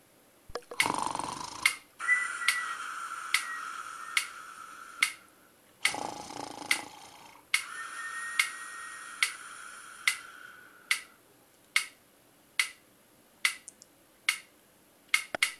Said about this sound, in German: Im Himmel, da tickt leis die Uhr.